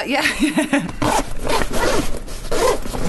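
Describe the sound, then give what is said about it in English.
Several quick, raspy zips follow one another in bursts as the compartments of a gym bag are zipped open and shut, with short pauses between strokes and faint voices underneath. “Sorry, it was a gym bag, obviously.”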